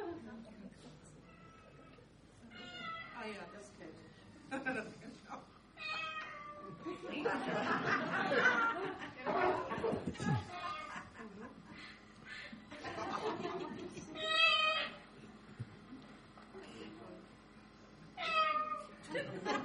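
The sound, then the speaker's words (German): A cat meows again and again in a video being played, drawn-out, wavering cries coming in irregular bursts, with a harsh, noisy screeching stretch in the middle and faint chuckling in the background. “Es geht um eine Katze oder mehrere Katzen, um einen Kakadu, bitteschön.”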